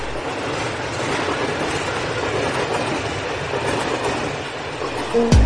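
A train rolls steadily along the rails with a continuous, heavy rumble and rattle, ending in a brief sharp screech right at the finish.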